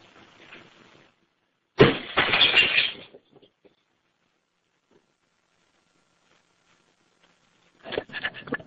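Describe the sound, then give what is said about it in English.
A sudden loud crash of double-pane window glass being smashed with a lid, with a burst of shattering that trails off over about a second, followed later by a second, shorter clatter of breaking glass. “Now go ahead and use that lid to break the window and get it opening full oxygen clearance into that room, sir.”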